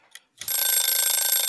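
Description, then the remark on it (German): A game timer starts up after a faint click, then goes off with a loud, continuous, rapidly pulsing metallic ring that carries steadily to the end, with no voices. “Wir packen einen Timer hinter.”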